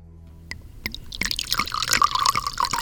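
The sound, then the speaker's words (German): Mineral water being poured into a glass for an interview with Professor Hauke Harms of the Helmholtz Centre for Environmental Research, starting with a few clinking drips and building into a steady fizzing and gurgling stream that fills the glass. “Zum Interview gieße ich Professor Hauke Harms vom Helmholtz-Zentrum für Umweltforschung ein Glas Mineralwasser ein.”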